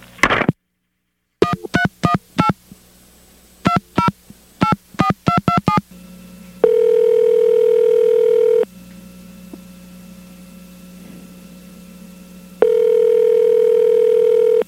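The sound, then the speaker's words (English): A quick run of about a dozen telephone keypad beeps, then a loud, steady, mid-pitched dial tone after a call is hung up that holds for two seconds, drops out, and returns. No one speaks. “Ma'am, did you hang up on me?”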